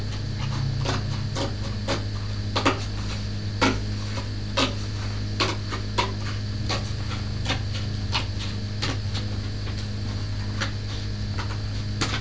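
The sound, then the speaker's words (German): Scissors snip through red paper, cutting out a roof shape, in a quick, irregular series of crisp clicks, some sharper than others, over a steady low hum, with no voices. “Du kannst ja schon mal aus dem roten Papier ein Dach ausschneiden.”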